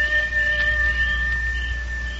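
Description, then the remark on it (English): A long, steady wolf howl holds one unbroken tone for a couple of seconds over a low, constant rumble, without any voices. “that there's either a real wolf out there, or else that's Nasha”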